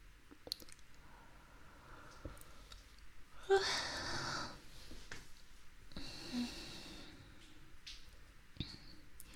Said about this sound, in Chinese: 看着你这睡眼朦胧的样子，给我也看困了，连着打了好几个哈欠了。